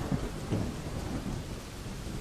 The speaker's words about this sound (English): Do not attend to the rain.